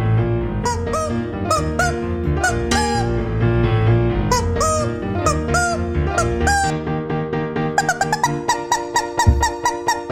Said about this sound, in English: he has a player piano playing Mozart, and he's in front of the player piano in a tuxedo with a rubber chicken. Mike, this is Mozart as played on a rubber chicken.